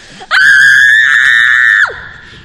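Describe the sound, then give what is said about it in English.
A child lets out a single loud, sustained scream, shrill and steady in pitch for about a second and a half before breaking off abruptly. No talking. “When the kid found out we were going to leave him at home, he started up a howl and fastened himself tight as a leech to Bill's leg.”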